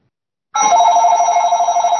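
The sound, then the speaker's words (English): A telephone rings with an incoming call, a sudden loud, steady electronic trill that starts after a brief silence and continues unbroken to the end, with no talking. “That's the right phone.”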